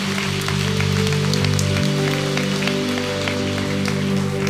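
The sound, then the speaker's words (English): A church audience claps steadily to thank God, a dense crackle of many hands filling the room for several seconds while sustained keyboard or organ chords hold underneath. “Let's clap our hands. Let's thank God for that.”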